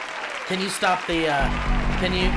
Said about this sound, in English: Can you stop... Yes, can you stop the clapping, please?